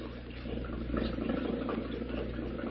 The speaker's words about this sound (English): Let's get this motor running.